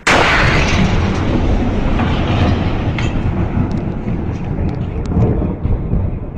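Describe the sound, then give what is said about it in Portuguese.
A loud, deep meteor explosion boom recorded in open ground on the outskirts of the city of Chelyabinsk, followed by a sustained low rumbling roar that stays dense and heavy for several seconds with scattered crackles on top. “Esta é a versão da explosão captada nos arredores da cidade de Chelyabinsk, numa zona de descampado.”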